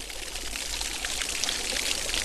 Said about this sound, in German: Wir hören den Dorfbrunnen von Schlehdorf. Aus einem Steinblock fließt hier Wasser in ein flaches, ebenerdiges Becken.